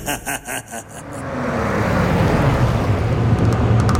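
Fingers drum on a car dashboard in four or five quick, even taps, then give way to a steady, swelling rumble of road and engine noise inside a moving car.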